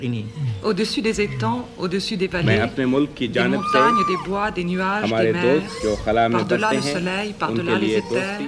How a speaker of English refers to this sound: The greetings continue into track three. This time, it's from more members of the United Nations. The UN greetings on this track are mixed with another sound, humpback whale songs.